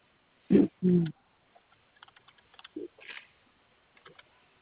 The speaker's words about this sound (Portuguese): Vou digitar aqui no sistema, um momentinho, tá bom?